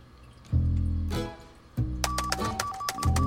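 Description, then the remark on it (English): A series of quick, crisp taps on a laptop keyboard, irregular, sounding over a low droning hum that swells in and out. “Bob raises a fist to his lips and taps the keyboard.”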